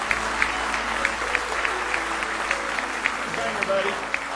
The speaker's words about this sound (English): Give the Lord a good hand clap of praise tonight.